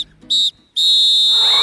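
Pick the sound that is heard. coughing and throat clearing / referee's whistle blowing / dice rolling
referee's whistle blowing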